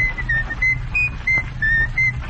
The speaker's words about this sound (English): All right, …, let's hear your whistling.